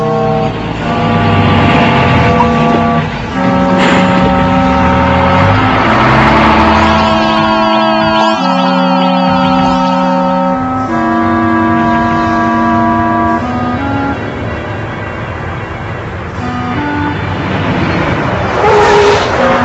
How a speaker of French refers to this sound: Le bus arrive, regarde!